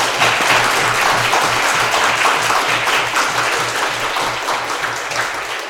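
A crowd applauds steadily, dense overlapping claps forming a loud, even wash of sound that holds for several seconds and eases slightly toward the end, with no voices.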